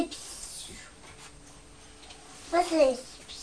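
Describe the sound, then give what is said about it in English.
After a quiet stretch, a young child makes a short voiced noise imitating a bus, a wavering, fairly high-pitched hum lasting about half a second. “Is that the noise that buses make?”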